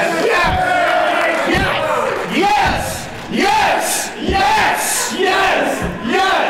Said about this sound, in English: The crowd in Rufford, New Jersey the night after WrestleMania. Best crowd ever.